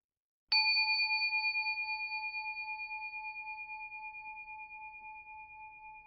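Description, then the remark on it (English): A single meditation bell is struck once to end a meditation, producing a clear, pure ringing tone that sustains and slowly fades over several seconds with a gentle wavering shimmer, heard alone in silence. “We'll end this meditation with a single bell.”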